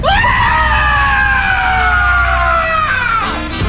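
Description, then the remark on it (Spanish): A voice loudly imitates people screaming at the airport of Villahermosa: one long, shrill, sustained shriek held for about three seconds, its pitch sagging slightly before it breaks off with a brief upward yelp. “Más o menos fue así el pedo, güey. Chale, güey. Sí, la gente gritó”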